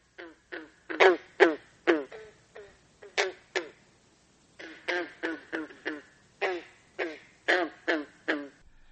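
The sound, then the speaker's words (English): Green frogs give a rapid run of loud, twangy, banjo-like croaks, each short and plucked-sounding, coming in two bursts split by a brief pause, with no talking. “Green frogs croak with a banjo-like twang like this.”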